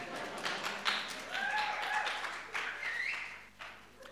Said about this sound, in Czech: Oni tleskají tomu, že jsi jim řekl, že jsou na prd.